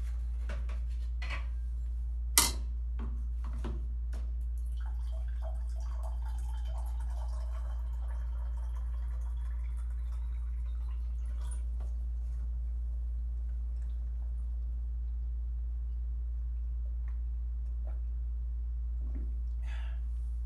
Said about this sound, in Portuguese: Vou beber água aqui. Tem que ter a hora sagrada, cara. Aos 29 minutos eu bebo água. Está definido em todo o podcast. Aos 29 minutos eu bebo água. Só pegar um copo.